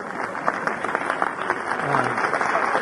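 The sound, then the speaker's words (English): An audience at a panel event claps for the speaker's wife, a dense crackle of many hands that holds at a fairly loud level and swells slightly toward the end, with a faint murmur of voices beneath. “Now, you new friends don't know what they're clapping for.”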